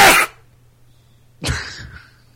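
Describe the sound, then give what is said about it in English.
A sharp sneeze bursts out loudly, followed about a second later by a second, breathier explosive burst, with a faint low hum between them and no talking. “bless you.”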